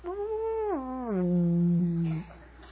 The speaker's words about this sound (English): hey, we're hearing stuff down here. And the guy's looking at a scope. There's a huge whale, probably 150 feet below you guys. And you could hear it.